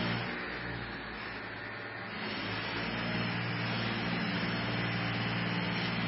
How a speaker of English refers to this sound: Is there a tractor in here? Yeah. Where are they going?